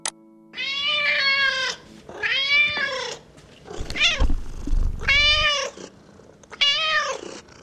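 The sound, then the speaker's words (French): A cat meows loudly, about five drawn-out, wavering cries in a row, with a low rumbling purr underneath in the middle. No one speaks. “Si, tu connais mon amour pour les chats.”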